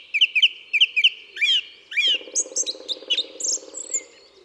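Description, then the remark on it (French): A black woodpecker, the largest woodpecker and about the size of a crow, drums in the distance: a low, steady, rapid roll like a drum roll, starting midway and running to the end, beneath louder bright birdsong chirps and whistles. “Ça, c'est un pic noir qui tambourine au loin.”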